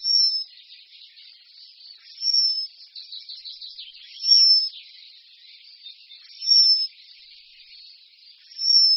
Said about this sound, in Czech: Jen vzácně můžeme v přírodě zaslechnout tiché flétnové trilky, hvízdání a vrzání, které tvoří zpěv moudidláčka lužního. Nápadnější jsou spíše táhlé vysoké hvězdy jeho vábení.